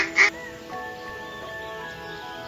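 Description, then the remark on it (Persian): A single short, harsh duck quack bursts out loudly near the start, then gives way to a steady, sustained tonal hum that carries on quietly underneath. “اما وقتی لئونارد با یه اردک روبرو شد چی کار کرده باشه خوبه؟”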